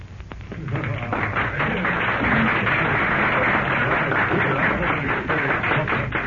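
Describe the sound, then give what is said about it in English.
Steady applause from a group of men, a dense crackle of many hands clapping at once that holds loud and even for several seconds, with a faint murmur of voices underneath. “Thanks for the applause, gentlemen.”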